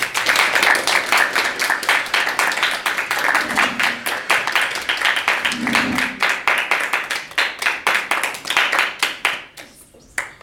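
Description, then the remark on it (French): A crowd applauds with dense, steady clapping in the theatre hall of the Lycée Lebrun, for Amrita, secretary of the magazine Les Loukoums et les Bananes au Chocolat. The clapping stays loud for about nine seconds, then thins out and fades to a few scattered claps at the end. “Nous pouvons donc faire un tonnerre d'applaudissements pour Amrita qui est secrétaire du magazine Les Loukoums et les Bananes au Chocolat.”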